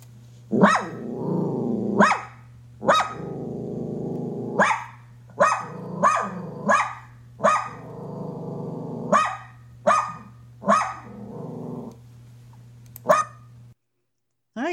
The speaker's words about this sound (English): I don't know if I've ever heard a dachshund bark before. So let's hear what that one sounds like.